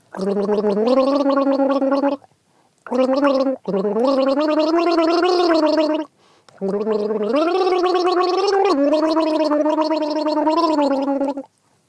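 Someone taking a turn gargling a song's melody, a bubbly, rattling hum that rises and falls in pitch across four loud sustained phrases separated by short pauses for breath.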